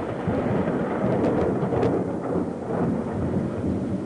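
A heavy thunderstorm in Xenia on April 3, 1974, the day of a tornado outbreak, roars steadily, with dense rain and a deep rumble of thunder rolling underneath, loud and continuous throughout with no voices.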